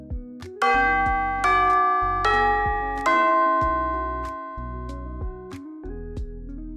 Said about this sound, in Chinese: 这个时候上堂嘅铃声响起。